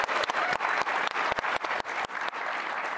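An audience claps in a steady, dense burst of applause with many overlapping hand claps, fairly loud and sustained throughout, with no talking over it.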